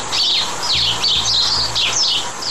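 Several sparrows chirp busily in quick, overlapping bursts, bright, over a soft low hum in the background, with no one talking.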